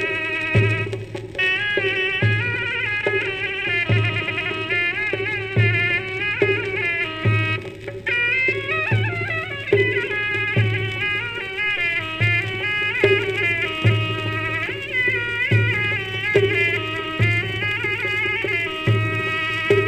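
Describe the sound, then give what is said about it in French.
A loud, piercing zurna, a double-reed wind instrument much heard in Turkey and Iran, plays a solo recorded in the 1930s: a continuous, heavily ornamented melody in a bright reedy tone, with a steady low thumping beat pulsing underneath throughout. No voices. “La Zurna, c'est un instrument à vent ange double qu'on entend beaucoup en Turquie, en Iran également.”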